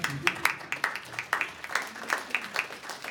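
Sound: audience applause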